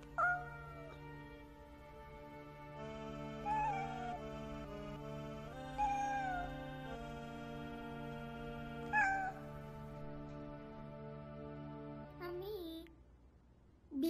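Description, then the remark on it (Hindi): A cat meows repeatedly while giving birth, about five drawn-out, wavering cries spaced a few seconds apart, heard over a steady humming musical background, with the final cry rising sharply at the end. “बेटी, बिल्ली अपने बच्चे दुनिया में ला रही है।”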